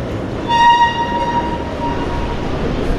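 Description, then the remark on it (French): Metro station ambience at Charles de Gaulle–Étoile at 8:30 in the morning, people heading down to the RER or up to the surface, some running on escalators, with a train rumbling past loudly as a steady high tone like a horn or brake squeal rings out early and slowly fades under the noise. “Il y a des gens qui courent sur les escalators, qui vont déjà vite.”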